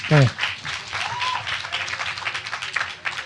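applause

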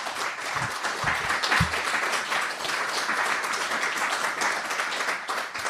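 audience applause

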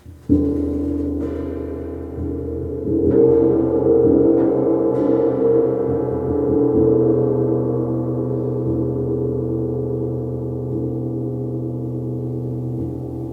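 gong ringing

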